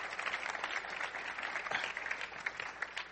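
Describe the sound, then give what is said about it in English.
An audience at a church service claps together in a dense, steady wash of applause that keeps going throughout, with no voices standing out. “Yes, give God a hand clap.”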